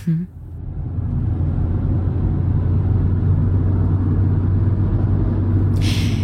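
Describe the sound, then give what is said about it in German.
An old car's engine rumbles steadily and loudly as it is driven from Warsaw toward Kyiv, a low droning hum that builds in the first second and then holds constant, with a brief hissy burst near the end. “Ihr seid von Warschau aus losgefahren. Du bist dann dort auch mit dem Thomas ins Auto gestiegen. Er ist am Steuer gesessen.”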